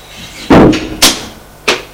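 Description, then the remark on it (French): A door being broken down by a man forcing his way in: three heavy, booming blows at uneven intervals, loud, each ringing out briefly before the next strike. No voices. “Défoncer la porte et entrer.”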